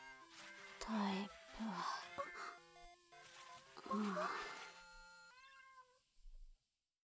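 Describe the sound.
A voice imitates a cat, giving three drawn-out, high-pitched meows in a row, fairly loud, with soft electronic tones in the background.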